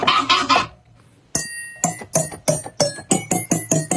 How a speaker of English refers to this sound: And then he records the sound of a fork banging on a glass, and he uses that as the key.